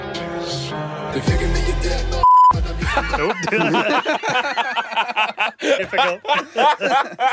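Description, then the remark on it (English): A short, steady electronic censor beep over a swear word cuts in abruptly mid-clip, lasting under half a second, with laughter and chuckling from several people around it. “I'll just beep that out for the episode, but yeah.”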